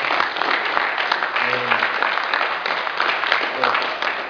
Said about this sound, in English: First, can we all give ourselves a round of applause for staying? Yes.